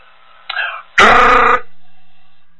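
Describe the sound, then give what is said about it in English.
A voice imitates car tires hitting rumble strips on an interstate highway: a short buzzy lead-in, then a loud, rough, rapidly pulsing vocal drone lasting about half a second, with no words. “you're going down the interstate, and you kind of maybe drift off a little bit, and you get on those rumble strips, and they go, you know, like that?”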